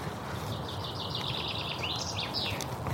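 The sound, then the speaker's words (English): A yellowhammer sings a quick run of repeated high, thin notes that rise into a slightly longer phrase near the end, over a steady, noisy outdoor background. “Now, is that the Yellowhammer?”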